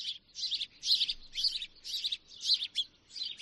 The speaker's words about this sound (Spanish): Sí, sí, sí. Es el canto de las aves. La de una, la de los otros, tan sencillo, tan completo, tan necesario para la salud, como lo oyes.